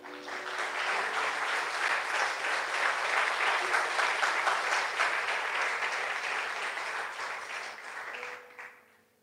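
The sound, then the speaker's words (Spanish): A crowd breaks into sustained applause, a dense wash of many hands clapping at steady volume for several seconds before tapering off at the end. “Dale un aplauso.”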